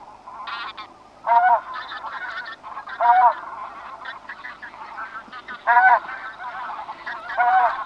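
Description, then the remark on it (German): Bean geese honking in a flock at the Neolithteich pond, with loud nasal calls repeating at irregular intervals over a constant background chatter of many more geese. No one speaks. “Also, die Saatgans ist der Vogel der Woche und ich kann es nur empfehlen, es lohnt den Ausflug von Leipzig und von Halle aus, von Dessau sowieso.”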